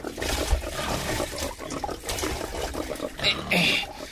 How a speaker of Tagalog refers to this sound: Oh, eto na yung pagkain niyo. Ibubuhos ka na sa mga pakainan ninyo.